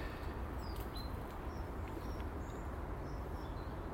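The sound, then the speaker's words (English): Small birds, including a coal tit, chirp in short, high, scattered calls at a bird feeder on a tree on a clear autumn morning, over a steady hiss of outdoor background noise, fairly quiet, with no one talking. “I filled the one of the bird feeders yesterday, I've run out of seed, it's just the one on the tree next to me, and the wee birds have been at it since yesterday afternoon, and they're not even bothering the fact that I'm here.”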